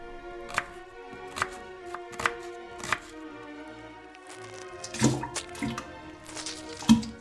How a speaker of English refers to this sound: Step 5. Slice up your lemon and squish the pieces into the water cooler.